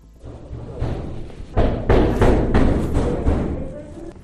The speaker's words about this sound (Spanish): Nos detenemos en uno de los primeros apartamentos y de verdad, el miedo que yo sentí al lado de ese policía cuando empezaba a porrear la puerta.